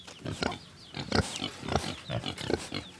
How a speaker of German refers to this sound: Schweine suchen vergeblich nach ein bisschen Matsch zum Suhlen.